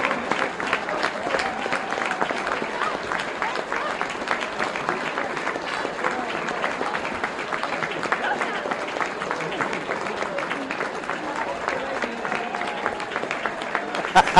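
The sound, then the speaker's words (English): A sustained round of audience applause, dense and steady throughout with many overlapping claps at an even loudness, with a faint murmur of voices mixed in beneath it. “So we just have a massive round of applause for John England.”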